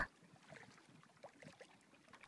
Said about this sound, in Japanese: 波の音を聞きながら、